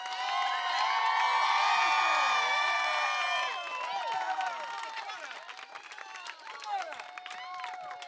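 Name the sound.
crowd cheering and applause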